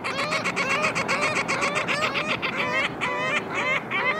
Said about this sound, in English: That black band around their sharp yellow beaks means these are ring-billed gulls sharing your afternoon on the water.